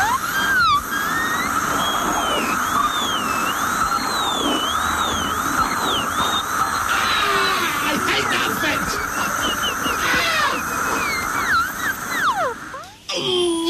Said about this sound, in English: It will absolutely grate you. It's equivalent to dragging your fingernails down a blackboard. So I'm going to warn you now. When I say now, turn your radio off for 13 seconds if you don't want to hear a dentist's drill.